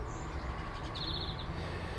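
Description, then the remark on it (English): A bird gives a short, quick trill of high chirps partway through on a morning, over a steady low outdoor rumble. Another brief high call comes at the start, and no one speaks. “Just enjoying fresh air and birds and song.”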